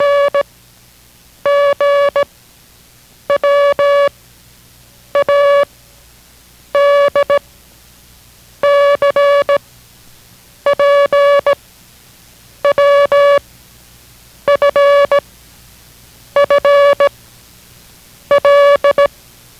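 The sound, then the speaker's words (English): International Morse Code beeps sent as characters in a copying lesson: about ten steady, buzzy mid-pitched tone bursts, each under a second long, repeating at an even pace with short silent gaps between them, with no talking. “This, in learning the International Morse Code, is as important as approaching a railway crossing at grade.”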